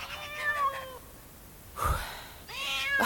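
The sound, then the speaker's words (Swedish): A cat on a farmyard meows three times: a long wavering meow, a short low-pitched mew after a pause, then another drawn-out meow, all fairly loud with no talking. “Men tänk om katten också kommer.”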